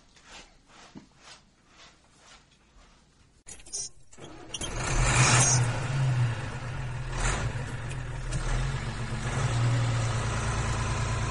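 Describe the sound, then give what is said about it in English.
After a few quiet clunks, a truck engine turns over and settles into a loud, steady rumble, idling with a deep low hum that continues to the end. “Now, which one of you flyboys can drive a truck?”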